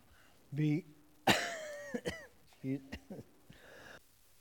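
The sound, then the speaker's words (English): A sharp cough bursts out from a man reading Bible verses aloud, followed by a few short throat-clearing grunts and brief voiced sounds, all fairly loud. “See, I just blanked on it when I coughed.”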